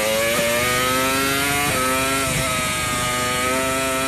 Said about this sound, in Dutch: Dit is een V10-motor